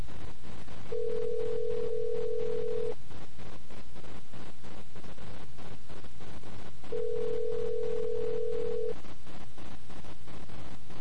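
A phone line's ringback tone purrs twice as a call goes unanswered to a phone a man is leaning against, each steady buzz lasting about two seconds with a long pause between, heard clearly over a constant wash of background noise.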